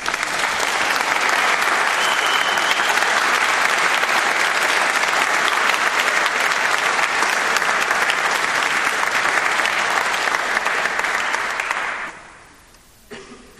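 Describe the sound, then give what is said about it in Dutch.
Sustained applause from an audience at a wedding ceremony, dense and steady clapping for about twelve seconds, then quickly tapering off into quiet with a few scattered claps at the end. “Ik vind dat we een applaus mogen geven, hè?”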